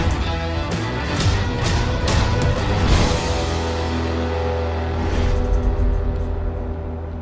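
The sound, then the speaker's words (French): A taxi's car engine rumbles, a steady low drone with a few brief swells in intensity as it runs throughout, with no voices. “Voilà mon taxi.”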